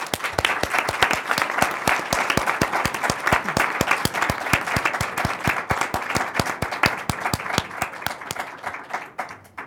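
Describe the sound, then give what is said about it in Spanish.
An audience at a panel event applauds a project steadily, many hands clapping in a dense, continuous patter that holds strong for several seconds before thinning slightly at the end. No one speaks over it. “Ok, pues gracias a quienes se dieron el tiempo para venir, y bueno, pues un aplauso por este proyecto hermoso.”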